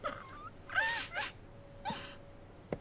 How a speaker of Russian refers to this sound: Ну что ты с ней сделал? Почему она плачет? Ничего. Я попросил воды. Выпил стакан, отдал ей, она заплакала.